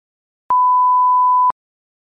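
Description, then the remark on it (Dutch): A single steady telephone ringing tone sounds for about one second, clear and fairly loud, beginning and ending abruptly with no voices around it, heard before a phone call. “Je hoort nu een telefoongesprek.”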